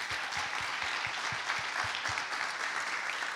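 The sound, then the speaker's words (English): A crowd applauds steadily for Bob Park, Chief Brand Officer at GE Appliances, with dense overlapping claps forming a continuous wash of sound, holding a consistent level throughout without anyone speaking. “A round of applause for Bob, please.”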